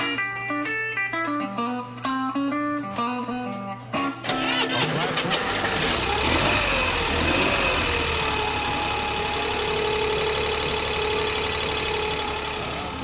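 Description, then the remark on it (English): A modified prototype Corvair car engine idles in economy mode with a loud, steady rumbling drone. The idle takes over after a few seconds of shifting tonal sounds and holds a constant hum with no talking. “When we go into the performance mode, you will see the idle quality deteriorate.”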